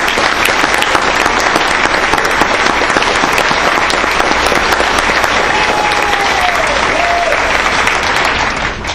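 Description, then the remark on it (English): Steady audience applause for the community passing two education measures fills the whole stretch, a dense, even wash of many hands clapping at a loud, constant level, with a faint whistle-like tone briefly rising through it near the end. “And so with that, I think the community deserves a round of applause for passing both of these.”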